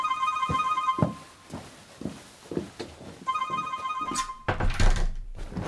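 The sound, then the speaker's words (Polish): A mobile phone rings in two bright, melodic bursts separated by a pause, accompanied by a steady series of dull thumps and a burst of rustling near the end. “Ja tak sobie dzwonię.”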